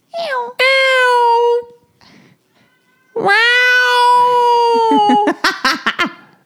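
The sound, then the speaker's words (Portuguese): A cat meows loudly: two long, drawn-out wailing meows separated by a pause, then a quick run of short, chirpy calls. “Ele acabou de miar, ali, ó.”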